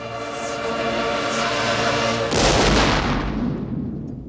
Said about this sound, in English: The cannons blast into the regiment.